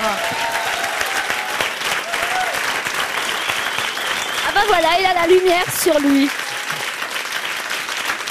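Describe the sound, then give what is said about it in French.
An audience claps steadily throughout, a dense, sustained round of applause for the show's creator at the end of a broadcast programme, while a man speaks briefly over it near the end. “On peut l'applaudir.”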